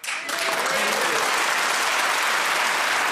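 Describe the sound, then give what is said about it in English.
An audience breaks into applause after a brief pause, a dense, steady wash of many hands clapping that stays loud and even throughout. “I have to say, I suspected we might not get a laugh, but I was banking on the applause, so well done.”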